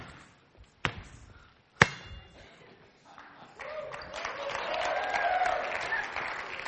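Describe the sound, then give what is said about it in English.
Two sharp knocks ring out, then after a short lull a steady round of applause swells up and holds, a dense patter of many hands clapping that stays fairly loud to the end. “No, that doesn't deserve any round of applause.”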